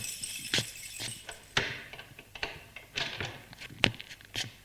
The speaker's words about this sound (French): La porte d'entrée qui s'ouvre.